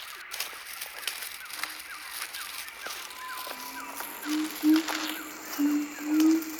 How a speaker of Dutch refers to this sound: Wow, wat was dat? Het lijkt wel een aap. Ja, kijk daar, hoog in de boom. Zie je ze? Dit zijn siamangs. Een soort grote zwarte gibbons.